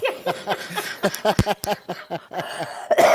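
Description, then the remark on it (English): A fairly loud run of short coughs and throat-clearing bursts, coming in quick uneven succession for a few seconds with no speech. “Excuse me, it's making me cough now.”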